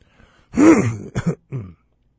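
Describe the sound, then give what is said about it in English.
A fairly loud throat clearing: one longer rough rasp followed by two short harsh bursts and a final softer grunt, with no talking around it. “Excuse me for clearing my throat.”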